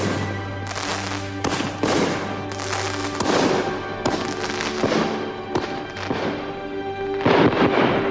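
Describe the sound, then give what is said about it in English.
Fireworks explode into the sky in a steady run of booming bursts and crackles, about a dozen over several seconds, loud, with a sustained tonal drone beneath them. “Watches the fireworks wearing a baseball jersey”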